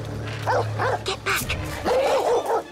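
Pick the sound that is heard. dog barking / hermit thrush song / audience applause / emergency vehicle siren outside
dog barking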